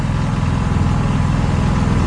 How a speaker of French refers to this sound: Oh, c'est formidable quand ça s'arrête. Hein. C'est pour ça que ça a été inventé, le moteur des bateaux, c'est pour ce bonheur qu'on éprouve quand ça s'arrête.